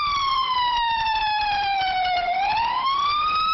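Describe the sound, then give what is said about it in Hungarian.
An ambulance siren of the Bihor County ambulance service in Romania wails loudly and continuously during an alarm, its piercing tone sliding slowly downward and then climbing back up, with a low rumble of road noise underneath and no voices. “Riasztás a Bihar megyei mentőszolgálatnál.”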